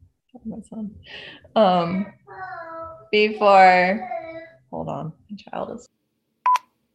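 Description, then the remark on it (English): An electronic doorbell rings, playing a short sequence of bright, steady chime tones in a few bursts, followed by a quick high beep at the end. “Hang on, my doorbell just rang and I don't really know why.”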